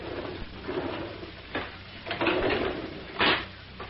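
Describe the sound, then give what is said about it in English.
Garage doors being pulled shut: a short scrape, then a longer grinding slide with a faint squeal, ending in a loud heavy clunk. No one speaks. “Keep your shirt on and close the garage doors before some fool cop shows up and begins asking questions.”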